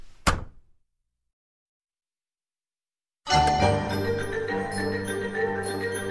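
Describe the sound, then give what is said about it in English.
A single soft, dull thud of a door gently shutting behind someone entering a tavern called the Delighted Wife, quick, followed by three seconds of silence before dense, sustained music swells in abruptly and continues. “Slowly, people start to reach for their swords as the door gently closes behind you.”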